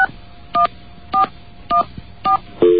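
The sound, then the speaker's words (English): Telephone keypad tones as buttons are pressed hard to make a phone call: a series of short, evenly spaced two-note beeps, about one every half second, then a longer, lower steady tone at the end. No voices. “Because we have to press these buttons really hard.”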